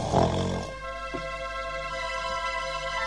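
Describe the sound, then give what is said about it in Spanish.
The pigs Tocinete and Laconcito, lying down to nap on soft ground, snore: one loud, rumbling snore in the first half-second, followed by a softer grunt, with steady tonal music holding underneath until the end. “Tocinete y Laconcito se acostaron y enseguida se pusieron a roncar.”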